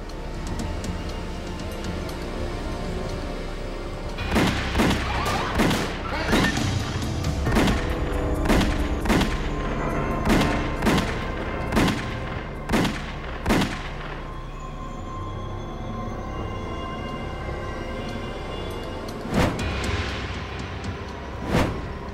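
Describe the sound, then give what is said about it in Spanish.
A rapid, irregular volley of about a dozen sharp gunshots cracks out over a steady low rumble, followed after a pause by two more isolated shots, fired by attackers at two men at a car stopped at the curb, each man hit six times. No one speaks. “Paul Castellano y Tommy Bilotti yacían fuera del auto, cada uno con 6 disparos.”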